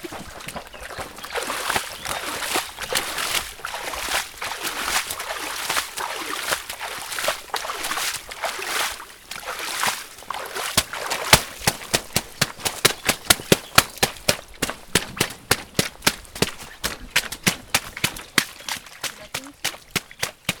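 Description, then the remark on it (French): Flowing river water rushes steadily, then a fast run of wet, splashy stamps begins, feet repeatedly pounding and packing mud in shallow river water at a brisk, even rhythm, compacting spread-out earth for a beaver-style structure while the river is low with little flow. “Ça c'est le beaver dance, la danse du castor. Il faut bien tasser la boue et s'amuser en même temps.”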